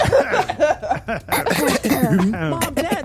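A group of people cough together in a quick, overlapping burst of forced-sounding coughs and throat noises, mixed with a few chuckles, fairly loud throughout.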